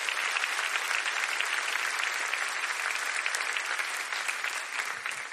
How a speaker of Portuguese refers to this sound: Você pode aplaudir o Senhor Jesus mais uma vez?